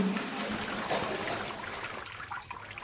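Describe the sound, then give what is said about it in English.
Water in a pretty deep creek inside a cave flows steadily with a continuous hissing rush. It is moderately loud, with no voices over it and only slight swells in the current. “Because if you go in the creek there, it is pretty deep.”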